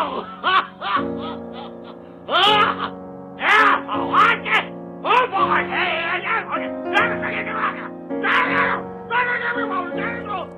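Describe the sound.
A chaotic jumble of high, squawking, garbled voices shrieking and babbling over a steady low electronic drone, with choppy bursts rising and falling throughout.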